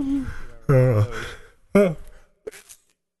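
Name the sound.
sneeze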